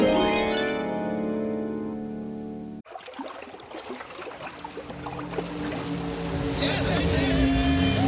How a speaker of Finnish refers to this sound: Ai toi vesiskootterilla pöristely vai?